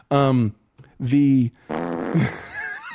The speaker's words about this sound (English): it's all fart and slide whistles